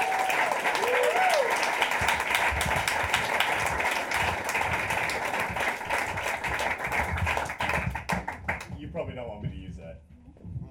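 Loud, sustained audience applause for a performer being introduced on stage, with dense clapping and some whoops, holding steady for several seconds before thinning out and fading near the end.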